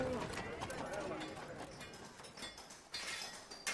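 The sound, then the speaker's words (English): Horse hooves clip-clop steadily amid the rumble of carts carrying people and goods on a busy street in Rome, with a murmur of indistinct voices and general bustle filling the background. “Horses and carts carried people and goods around the city.”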